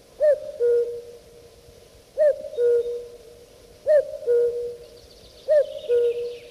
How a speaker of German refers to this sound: Habt ihr das gehört? Das war unsere Uhr hier im Musikraum. Sie klingt ungewöhnlich, nämlich wie Vogelgezwitscher. Eben hat sie wieder Kuckuck gerufen.